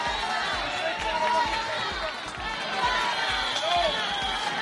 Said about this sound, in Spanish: Estos pitos y gritos de dimisión que escuchamos son, para Grande Marlaska, pequeñas anécdotas.